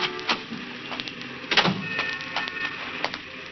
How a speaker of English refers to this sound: He was just sitting there, waiting for her to come out, when the squad car came around the corner and stopped. Two patrolmen got out.